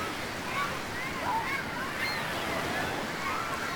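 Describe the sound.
Ocean waves wash steadily onto a beach in a continuous, moderately loud roar of surf, with faint voices or calls drifting over the water.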